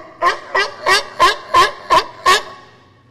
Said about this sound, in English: So some of those vocalizations that you're talking about, one of the ones that you're hearing and that most people think of when they think of sea lions is the bark.